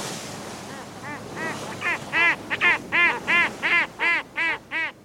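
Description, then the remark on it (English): A run of harsh, nasal seabird calls repeats in a steady rhythm, growing louder, over a soft wash of background noise like surf, at the edge of North America's continental shelf off the coast of North Carolina on a summer day. “Seabirds gather where food is abundant, at the edge of North America's continental shelf, where nutrient-rich waters nurture a wealth of squid and small fish.”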